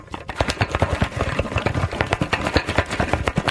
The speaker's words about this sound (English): Paper clips. That was the sound that it made.